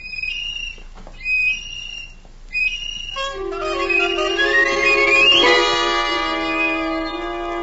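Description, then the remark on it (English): A child blows a little tin whistle indoors, shrilling out a few short high notes, then holding a long, piercing tone that slides upward in pitch, loud with no one talking. “But at the time I felt persecuted, and it made the little tin whistle seem more important to me than ever.”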